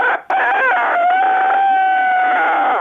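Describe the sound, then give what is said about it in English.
A person's voice imitates a cockerel crowing, one long, loud call with rising and sustained tones, heard alone without any other talking. “But when they change into a cockerel, it'll sound like this.”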